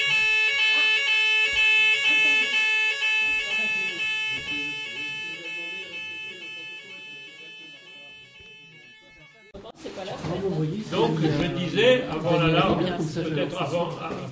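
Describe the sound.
A steady, high-pitched alarm rings continuously for about ten seconds, slowly fading in loudness, before it cuts off and a person begins talking.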